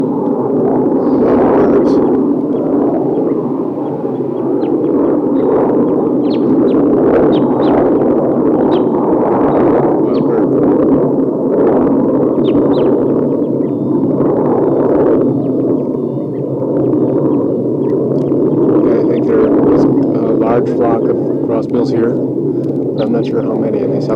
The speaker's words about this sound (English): So recording, I'm down by the tassel birds, and there's a wild crossbill on top of a tall eucalyptus here.